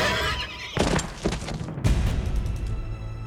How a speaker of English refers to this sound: Theseus rose and lunged toward the centaur who held Hippodamia, plunging a knife into the horseman's chest. The centaur neighed in agony and collapsed.